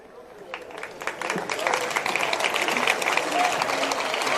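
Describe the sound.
A crowd breaks into applause that starts modestly and swells into steady, dense clapping, holding strong through the end with a murmur of voices mixed in.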